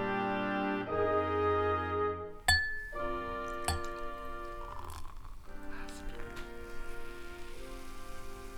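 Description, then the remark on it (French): Bubbles fizz and crackle in glasses raised in a toast to Yvonne Denis on her 100 years. A steady sparkling hiss is broken by a few sharp glassy clinks, with sustained tonal sounds ringing underneath throughout. “Non mais 100 ans, écoute, le bruit, les bulles, autant de bulles comme ça.”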